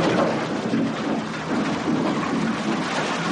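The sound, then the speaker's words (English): A tractor dumps one cord (128 cubic feet) of firewood, a dense, continuous rumbling clatter of logs tumbling and knocking together, loud and fairly steady for about three seconds with no voices. “That's a tractor jumping one cord of firewood, the industry's standard measure.”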